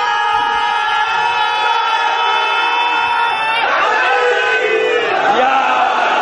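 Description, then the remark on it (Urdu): A large crowd shouts a religious slogan together in a loud, sustained unison chant, one long held call followed by a second surging response, filling the space with massed voices. “دیکھیے میں آپ سے نعرے طلب نہیں کرتا, مگر یہ ضرور طلب کرتا ہوں کہ جب نعرہ لگاؤ تو نعرے کی طرح ہونا چاہیے.”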